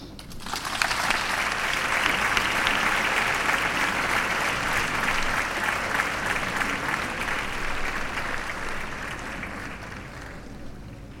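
A large crowd in a town square applauds steadily at a town festival (festa major) as the evening's speaker walks to the stage, a dense wash of clapping that swells quickly, holds strong and fades slightly near the end, with a few faint voices underneath.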